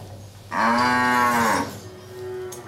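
A single long, loud cow moo with a rich harmonic drone, rising and holding for about a second before fading, followed by a softer, lower trailing call.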